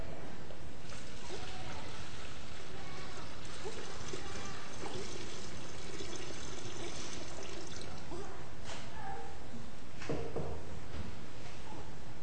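Water pours steadily into a baptismal font during a baptism, a continuous splashing trickle that runs for about twelve seconds at moderate volume, with brief surges in the flow.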